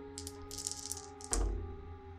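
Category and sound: household object, dice being rolled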